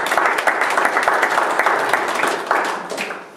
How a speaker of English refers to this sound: If you understand that, give a little hand of applause.